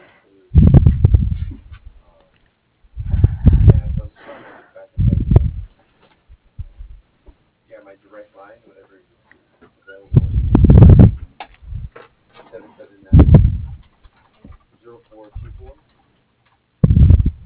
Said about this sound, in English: Hold on one second, huh? I'm sick as heck. Hold on, I got to blow my nose. Hold on, hon.